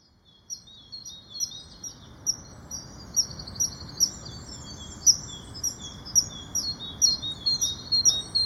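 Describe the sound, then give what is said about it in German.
A common kingfisher calls in flight in a rapid series of short, shrill, high-pitched whistles, repeated steadily over a soft background rush, with no one talking. “denn da fliegt er lang, der Eisvogel”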